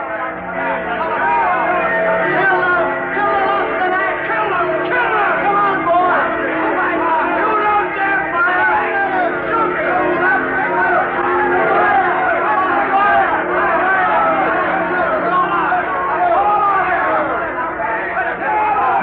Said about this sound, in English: Crowd presses in.